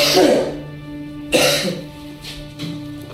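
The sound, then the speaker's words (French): A person coughs on command while bending down during an entry search at a prison, several quick, rough, fairly loud bursts with a short pause between each cough and a faint steady hum in the background. “Les mains, passez vos mains dans les cheveux, ouvrez la bouche, tirez la langue, retournez-vous, montrez-moi la plante de vos pieds, l'autre, baissez-vous, toussez.”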